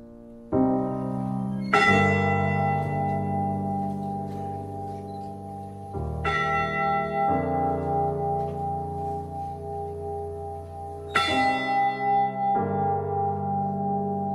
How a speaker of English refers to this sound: The day after the wreck, the Mariners' Church in Detroit rang its bell 29 times for each of the crewmen lost.